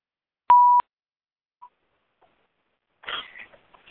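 A single short, loud electronic phone-keypad beep rings out as star 6 is pressed on a phone line, followed by near silence and then a burst of scratchy, rustling noise near the end. No one speaks.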